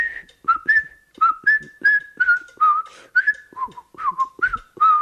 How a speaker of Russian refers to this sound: Это была фуга Баха. Я сейчас попытаюсь ее просвистеть.